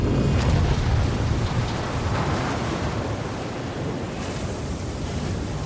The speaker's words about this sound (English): The Sudo Havid rolls onto her side and with a huge bang, the catches on the external doors break under the pressure, letting in a crushing flood of water.